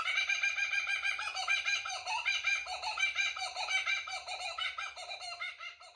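Kookaburras cackle and laugh in a loud, continuous chorus of rapid, rhythmic, high-pitched calls for the full six seconds, played as a phone ringtone and wake-up alarm, with a faint low hum underneath and no talking.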